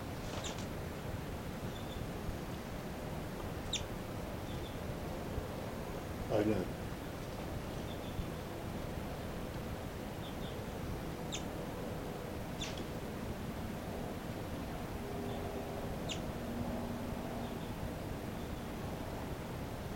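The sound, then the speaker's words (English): A handful of short, high-pitched calls from bird 5-9 as it flies around a cell ring out at irregular intervals over a steady hiss of background noise, each call brief and sharp. “This is the calls of 5-9 as he flies around the cell.”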